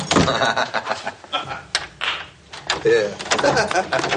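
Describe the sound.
A door rattles and thuds as someone jams it shut, with a series of uneven knocks, scrapes and creaks over a few seconds, and faint voices in the background.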